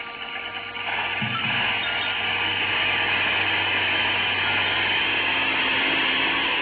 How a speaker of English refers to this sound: Two precarious little seats are propped up high in the middle of it, and at the back is a motor with an airplane propeller.